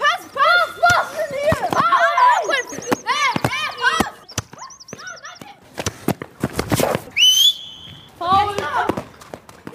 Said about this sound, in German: Ein eingezäunter Fußballplatz mit zwei Toren, das Geräusch des Balles, Schreie und Pfiffe von den unterschiedlichsten Schülern.